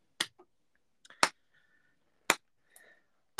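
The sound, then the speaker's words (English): A slow clap: four sharp, single hand claps spaced about a second apart in an even, deliberate rhythm, fairly loud, with faint small rustles between them and no talking. “Todd is doing the same slow clap that Patrick did.”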